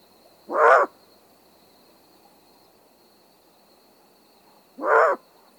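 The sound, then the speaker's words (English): Two loud, harsh alarm barks from an adult great horned owl alarmed near its nest, spaced about four seconds apart, over a faint steady insect-like hum in the background. “For instance, adults give loud barks when alarmed near the nest.”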